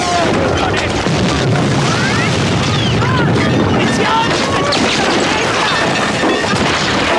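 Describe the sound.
Dense, continuous battle noise of gunfire and explosions as men struggle out of the water onto a beach under incessant bullets, with booming blasts and crashing impacts layered over a steady roar, with indistinct shouting voices mixed in throughout.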